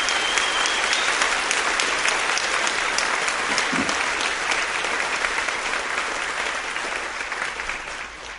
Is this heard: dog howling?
no